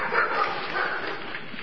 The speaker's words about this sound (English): So, they keep also dog? I was thinking there was no dog. They're stray. Huh? Strays. Many dogs live around the county. Oh. An unusual number. It's very large.